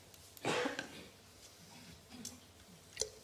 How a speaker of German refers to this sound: Passend zum Thema habe ich auch ein bisschen Husten. Also, aber kein Corona, ich habe es gecheckt.